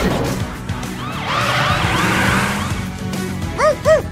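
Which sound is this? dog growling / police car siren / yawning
police car siren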